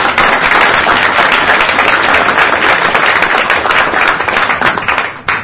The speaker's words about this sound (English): Please give them all a welcoming round of applause.